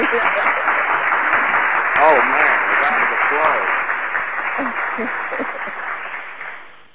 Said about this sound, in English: I feel, hey, I'm blushing. I got the round of applause, man. I'm feeling that.